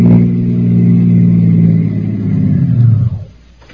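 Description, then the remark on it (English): A press car's engine revs loudly for about three seconds, its deep rumbling pitch rising and shifting as it pulls up in front of the Big Town High Hatter Club, then cuts off abruptly, with no voices. “Steve Wilson has arranged to meet Harry in front of the Big Town High Hatter Club and is driven there in a press car to question the doorman”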